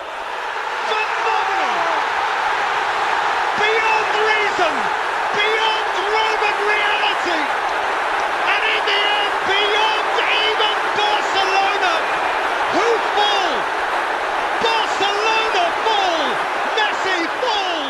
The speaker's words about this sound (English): And the crowd just erupts again.